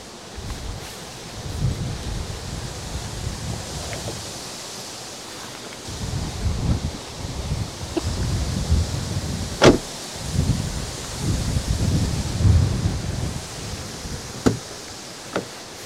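Strong wind buffets the microphone in uneven gusts, a low rumbling roar over steady hiss, with a few sharp clicks and knocks scattered through. No one speaks.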